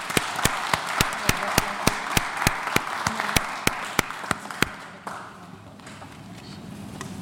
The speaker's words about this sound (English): Ladies and gentlemen, please, let's give a warm applause